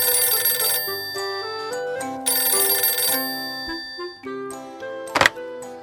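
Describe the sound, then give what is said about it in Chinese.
In the evening, a telephone rings as Lise calls Nicolas: two bright, buzzy bursts of about a second each, separated by a short pause, over soft melodic chiming notes that continue between and after the rings. “晚上，丽丝打电话给尼古拉。”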